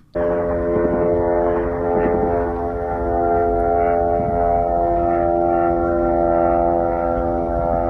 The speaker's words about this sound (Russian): Давайте посмотрим, как происходило сегодня сбитие и не сбитие, к сожалению, этих дронов камикадзе в украинской столице.